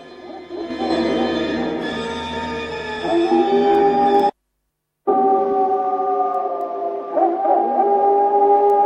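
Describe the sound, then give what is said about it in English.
A chorus of overlapping, drawn-out howls in a forest under a full moon rises and swells in volume, breaks off into a brief silence midway, then resumes even louder and more intense. “The howling grows ever louder as above the forest the full moon shines down.”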